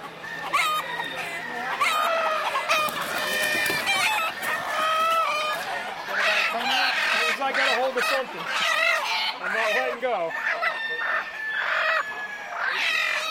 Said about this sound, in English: These are standard Old English game, which is related to most of the pit games, what they use for cockfighting. These are bred more for show, and they will come after you. They can be extremely aggressive, so they can be quite a challenge to judge.